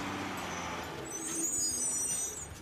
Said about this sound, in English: That's another truckload of new vehicles arriving here at Colonial.